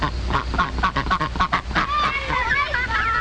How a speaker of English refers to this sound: Farm ducks need to have their wings clipped. Just like cutting your fingernails. It doesn't hurt at all. Somebody isn't quite so sure about that.